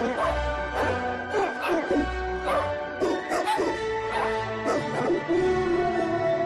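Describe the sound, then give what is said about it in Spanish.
A dog barks repeatedly in short, fairly loud bursts about every half second, layered over a sustained musical backing, with a few whimpering yips mixed in. “Cuando alimentes a tu perro con Doxila, se siente invencible.”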